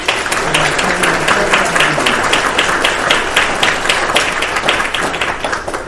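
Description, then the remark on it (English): A church audience applauds its volunteers steadily, with dense overlapping claps at a constant loud level for several seconds, without pause. “But before that, let's give a thanks of God, a round of applause to our volunteers.”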